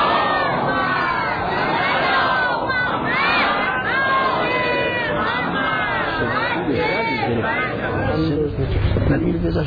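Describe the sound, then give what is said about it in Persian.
A large audience chants a salawat together, many voices loud, their overlapping melodic lines rising and falling in one continuous swell that fills the whole stretch, sent in response to the preacher's request for another salawat. “صدا بر میگرد نمیشتن محبت کنی یه صلوات دیگه بفرستی.”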